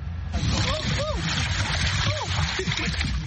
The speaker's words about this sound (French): La rivière Ivindo au Gabon. Ce canoë sculpté dans un tronc d'arbre peut accueillir 14 personnes. Nous sommes 7 à bord pour une patrouille d'une semaine.